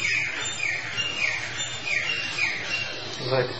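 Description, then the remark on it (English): A bird chirps repeatedly in short, bright bursts at a steady rhythm, moderately loud against a constant low background hum, with no clear talk over it. “So what do we think when we hear the bird?”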